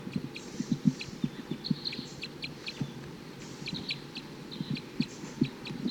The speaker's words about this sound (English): Wild bird, wild male. Responding to 258. So recording, that was a wild bird chittering on his way up to a nearby eucalyptus.